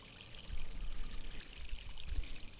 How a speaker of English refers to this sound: The sound of trickling water is omnipresent here. There are tanks everywhere, with water running down from the highest terraces of this otherworldly garden.